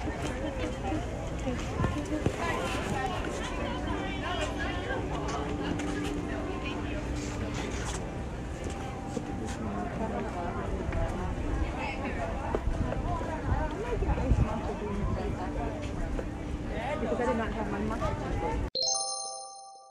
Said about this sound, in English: Here we are waiting for the bus. Oh, well, isn't that lovely ambient noise right around us? Sitting in the park, waiting for this bus to come and pick us up and maybe take us to another park.